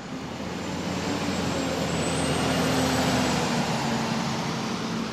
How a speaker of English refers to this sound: A fleet of tour buses runs almost nonstop when a ship is in port. Unlike other Southeast communities, Sitka's cruise dock isn't downtown. It's 6 miles north. That means busing tourists is a big part of the equation